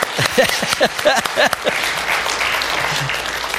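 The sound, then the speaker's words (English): A crowd breaks into applause, a dense wash of many hands clapping with a few sharp, louder claps early on, then settling into a steady, softer patter that fades out. “May I have a round of applause for Saul and David?”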